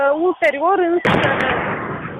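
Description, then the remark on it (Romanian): A raised voice calls out, then a single loud warning gunshot cracks, followed by a sustained burst of harsh, noisy roar that lingers to the end. “Acum a fost tras un foc de avertizare.”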